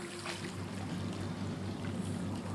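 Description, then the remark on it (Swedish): Steady sloshing and lapping water fills an indoor swimming pool hall with large windows at Habogård in Lomma, where women are in the pool, with a low continuous hum underneath and occasional soft splashes, no voices present. “Stämningen är hög i bassänghallen som har stora fönster mot grönskan utanför.”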